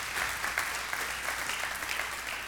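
An audience claps steadily to honor the workers who installed the screens and painted the walls, a dense, even wash of many hands applauding without pause at a moderate level, bright and crackly with no voices standing out.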